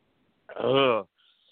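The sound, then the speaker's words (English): A single loud, voiced burp after a sip of Coke, lasting about half a second, low and croaky with a rising-then-falling tone, heard on its own with no talking. “Oops, sorry. Better out than in, right?”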